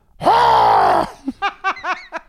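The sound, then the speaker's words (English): A person lets out one loud, sustained scream, then trails off into four or five short, choppy vocal bursts like gasps or sobbing breaths. “Listen, that's just me screaming.”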